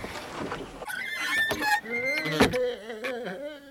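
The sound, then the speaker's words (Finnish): A door, freed of timber piled in front of it, creaks open with a drawn-out, squealing groan after a burst of shuffling noise, fairly loud, and voices start talking right after. “Ovi auki ja heti.”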